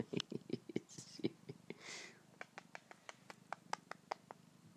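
A male cat purrs softly and steadily while nuzzling and mauling a person, with quick, irregular rubbing and tapping clicks over it, like fur brushing against a surface. No one speaks.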